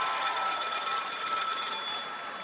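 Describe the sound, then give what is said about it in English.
A telephone bell rings continuously with a rapid, shimmering metallic trill, steady, then cuts off abruptly near the end, leaving a faint tone. “Oh, my God, it's ringing. Oh, my God, it's a call.”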